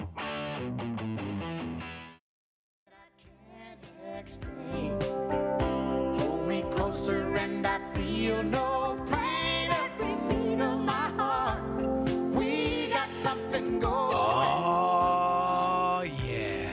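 A mellow country duet with sung vocals over steady guitar and band accompaniment plays loud, after a brief opening snippet and a short pause.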